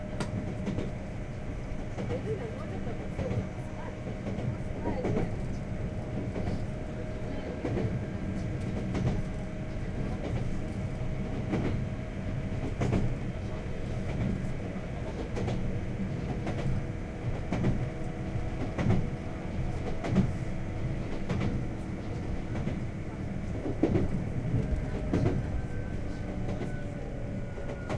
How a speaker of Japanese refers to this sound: 普通電車の熱海行きで次は城ヶ崎海岸です。